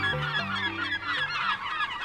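American herring gulls scream and squeal in a noisy flock, harsh overlapping calls piling up continuously, with a low honking cry near the start, loud.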